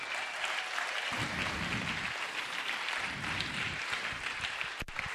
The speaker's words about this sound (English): I'm just excited for the two of them to be sharing this morning. So if you could give them a round of applause here.